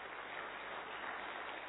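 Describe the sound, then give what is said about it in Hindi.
A crowd gives itself a big round of applause, clapping steadily, dense overlapping applause filling the whole moment at an even level, with no voices heard over it. “अपने लिए जोरदार तालियां हो जाए।”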